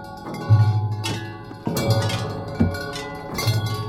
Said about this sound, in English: On tubular bells, the cute but rascally Jojo.